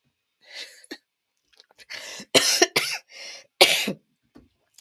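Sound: coughing fit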